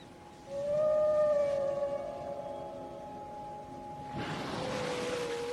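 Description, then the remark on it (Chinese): A Bryde's whale near Weizhou Island, China, calls with a drawn-out, moaning tone that slides slowly downward, fairly loud and alone. Near the end a broad rushing burst, like water or a blow, rises beneath a final thin whistle. “因为有了这座岛，人们惊喜地发现，他们竟然和布氏京城的邻居。”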